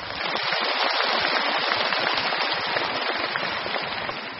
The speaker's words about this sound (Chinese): 所以今天他们的到来也是护法，让我们全场和我们视听剧场的所有的佛友们以热烈的掌声再一次对他们表示感谢。